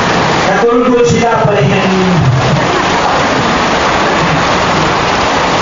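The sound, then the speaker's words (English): Heavy rain pours down in a loud, steady wash of hiss that never lets up, with a faint voice murmuring briefly underneath near the start. “I don't believe it was raining like this.”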